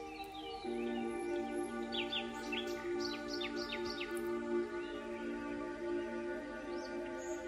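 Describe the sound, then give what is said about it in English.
Birds chirp and tweet in a quick cluster of bright, high calls, mostly in the first half, over a steady soft humming drone. Fainter chirps return near the end. No one speaks. “Perhaps you hear the sound of a gentle breeze rustling through the leaves, the songs of the birds, or an occasional bark of a dog in the distance.”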